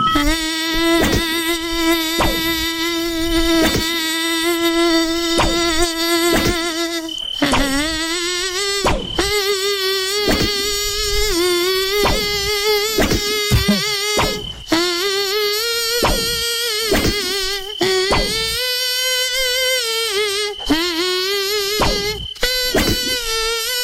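A loud mosquito-like whine glides up and down through a recognizable song melody, buzzing steadily for about twenty seconds with brief breaks between phrases and no voices; a singing mosquito in a studio game where listeners must recognize its songs.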